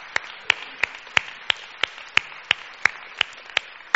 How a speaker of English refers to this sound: And can we just give a round of applause, because we want to welcome you.